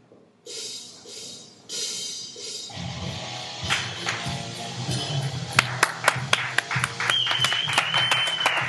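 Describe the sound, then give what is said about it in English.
An audience applauds as the band are brought to the stage, starting softly and swelling into steady clapping, with sharper individual claps standing out near the end and a brief high whistle over the crowd. “Clap too.”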